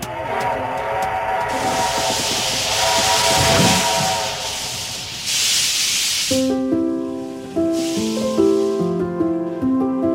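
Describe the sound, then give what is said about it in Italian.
A steam train chuffs and hisses in loud bursts of venting steam, while a sustained multi-tone whistle sounds early on and returns as shifting, stepped tones near the end. No one speaks. “Questo rumore è un treno a vapore.”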